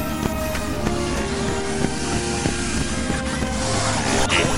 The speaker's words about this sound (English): It's those damn Mark IV security drones. They seem to use them everywhere in the future.